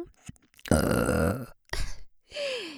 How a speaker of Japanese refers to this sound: チンポをしこってしこってしこりまくって、両耳から聞こえる下品なゲップと一緒に射精したいですよね。ほらほら、お兄さんの大好きなおかず用ゲップだよ。